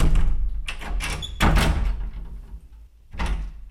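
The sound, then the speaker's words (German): The heavy old door of a former milk shop swings and closes with a deep, resonant thud, followed by a second softer knock as it settles, with a low rumbling body. “Also das ist einfach die alte Ladentür und wir gehen meistens hier rein und raus.”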